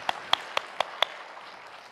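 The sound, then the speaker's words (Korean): Applause from a church audience giving a clap of glory to God: five sharp, evenly spaced claps in a quick steady rhythm, then a faint lingering wash of sound. No one is speaking. “할렐루야, 하나님께 영광의 박수를 올려드리겠습니다.”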